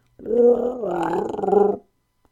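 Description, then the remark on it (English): A single loud growl from the Wookiee Chewie as he hands a crate into the Millennium Falcon's garbage disposal: a rough, warbling, rising-and-falling vocal rumble lasting under two seconds, clear, with no talking around it. “Chewie handed over a crate, but couldn't help growling one more question as it went down the hatch.”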